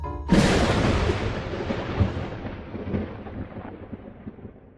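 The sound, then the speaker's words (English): A sudden, loud crack of thunder bursts out and then rolls into a long, deep rumble that slowly fades over several seconds, with no voices. “Thunderclap.”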